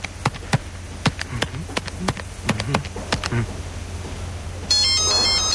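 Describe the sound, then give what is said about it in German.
A series of sharp, irregular clicks and taps, then a loud electronic mobile phone ringtone suddenly starts near the end, a bright, high-pitched melodic trill. “Oh, mein Handy. Scheiße, wer ruft mir da an?”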